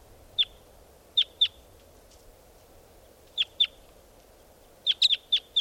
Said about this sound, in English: Coming in. These are the calls of the decoys.